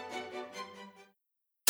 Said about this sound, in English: Static, noise, that's all we hear, or so it seems.